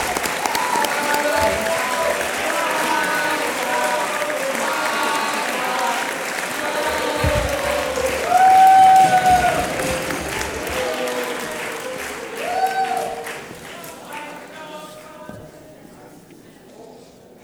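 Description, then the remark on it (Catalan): Loud, sustained audience applause with dense clapping from a large crowd, a few brief whistles rising over it midway, before the clapping gradually thins and fades toward the end. The applause greets the Pubilla de Catalunya 2021 as she is invited to speak, at a Foment de les Tradicions Catalanes event in Sitges. “Un fort aplaudiment.”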